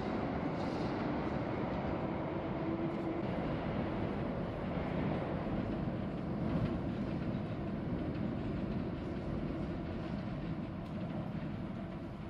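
A train rumbles steadily past a railway platform, a loud, continuous low roar with rattling noise that holds for the whole stretch and eases slightly at the end. No one speaks.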